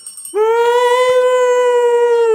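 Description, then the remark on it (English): A person lets out a long, steady howling call, a loud sustained tone with rich harmonics that rises slightly at the start and holds for about two seconds, imitating a Bigfoot cry. “I want to hear your Bigfoot call.”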